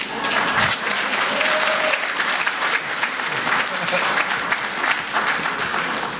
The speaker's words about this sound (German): Könnt ruhig mal klatschen dafür.